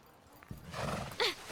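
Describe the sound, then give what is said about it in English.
A horse gives a short, shrill whinny near the end, preceded by a soft thud and a rising rustle of hooves shifting and clip-clopping, with no voices. “There's a stable over there. We'll leave the horses.”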